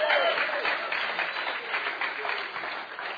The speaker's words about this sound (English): Amen. Why don't we give Jesus a big hand clap, huh? Давайте поблагодарим Иисуса, да?